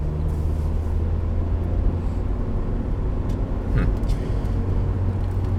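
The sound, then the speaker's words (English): A four-cylinder car engine drones loudly and steadily at high RPM for several seconds, a constant roar with a low humming tone and no pauses. “This is where I'm going, okay, now, I'm not getting any more power at this RPM. I want to change gears, right?”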